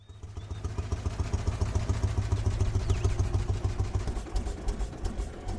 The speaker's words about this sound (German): Es dauert nicht lange, und Etienne steuert den Traktor auf den Hangarplatz.